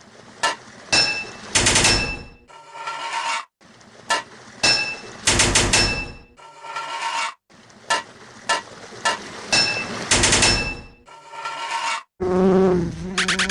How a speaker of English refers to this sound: Take that, you crazy bee!